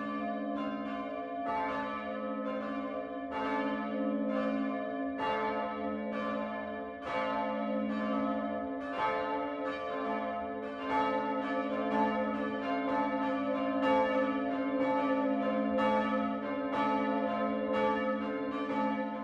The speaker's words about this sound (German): Es ist 12 Uhr. Das Mittagsläuten kommt heute von der evangelisch-lutherischen Pfarrkirche St. Michael im unterfränkischen Hofstetten.